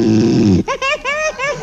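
One loud snore from a sleeping man: a deep rattling rumble on the inhale, then a high wavering whistle on the exhale, exaggerated and comic, with no other sounds around it.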